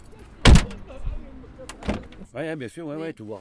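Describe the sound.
The heavy door of a black taxi van slams shut with a loud thud in La Monnaie, followed by a softer second knock, low engine rumble underneath, then a person starts talking.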